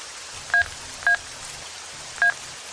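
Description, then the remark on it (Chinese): Three short, sharp telephone keypad tones beep at uneven intervals as a phone number is dialed at a school gate, over a steady hiss of rain, with no one speaking. “到了，给那个泼妇打电话，让他来接你，我就不进去了。”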